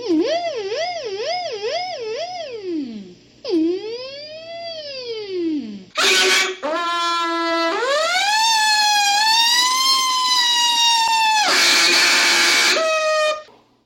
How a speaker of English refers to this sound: That way, you start actually hearing the police siren effect come out. When you start doing it slow, it sounds kind of like a regular police car going down the road. But once you start moving it faster, it sounds like a police car in pursuit.